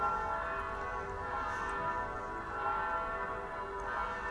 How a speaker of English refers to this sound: I'm sat in the sunshine of my garden in Hanley, and you can hear the bells of Sacred Heart Church calling people to Mass.